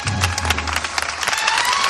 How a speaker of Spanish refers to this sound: Y que ahora levanta los aplausos aquí a las puertas de la Basílica.